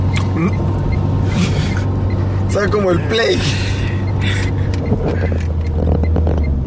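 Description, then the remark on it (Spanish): A steady, low car engine drones continuously throughout beneath people talking, an hour and a half from Guamal, with no pauses or changes in its even hum. “¿Y se apaga el carro y lo vuelve a prender?”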